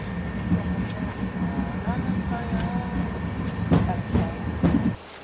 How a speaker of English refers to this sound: Morning. I am on the train headed back from Alicante to Madrid. The train is now moving, so I've turned on the recording again.